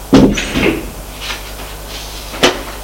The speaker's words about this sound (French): La porte s'ouvre, son père apparaît.